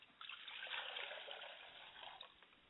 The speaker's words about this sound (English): I pour libation to the east, and I say, Ashe. Ashe. I pour libation to the west, and I say, Ashe. Ashe.